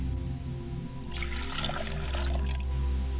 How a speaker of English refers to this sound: I pour a glass of water for my father's side of the family, and I say Ashe. I pour a glass of water for my mother's side of the spirit, and I say Ashe.